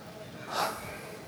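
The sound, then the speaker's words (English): A brief, breathy gasp from an audience member on the left-hand side of the room, a single sharp intake of air rising and fading in about a quarter second against quiet background murmur. “I hear the gasp from the left-hand side of the room.”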